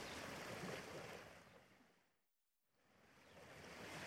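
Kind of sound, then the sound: ambience, beach waves and surf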